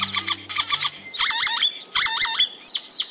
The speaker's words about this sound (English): Great-tailed grackles live up to their name. The glossy black males trail their long, V-shaped tails behind them as they fly, almost like a plane towing a banner ad.